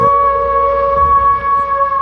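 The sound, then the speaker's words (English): An eerie, spooky Halloween howl sound effect holds one steady, unwavering pitch with bright overtones. It sounds loud and sustained for the whole two seconds, with a low rumble underneath and no voices. “I have so many sound effects waiting to go for Halloween.”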